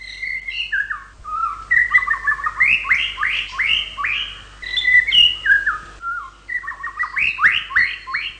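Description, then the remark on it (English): A male white-rumped shama sings a rich, clear song of melodious trills and varied flute-like whistles to attract a female, phrases tumbling one after another with brief pauses, no other voices present. “The series of melodious trills and flute-like whistles that make up the male's song when he's trying to attract a female can often be heard year-round.”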